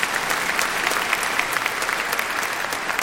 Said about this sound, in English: Now, yeah, you can clap for God.